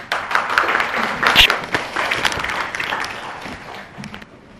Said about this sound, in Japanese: それでは本日の先生の説教、愛に生きる素晴らしさと題しましてお話をしていただきます。拍手を持って迎えたいと思います。